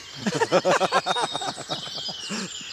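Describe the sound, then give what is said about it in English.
A wood pigeon's soft, low cooing repeats in a steady rhythm, while a chaffinch's thin, bright song trills faintly, with the sun well up in the sky. “The chaffinches are going. We've got the wood pigeon as well.”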